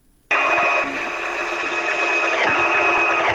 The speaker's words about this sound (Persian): در این گزارش که با صدای ماشین خیاطی آغاز میشه،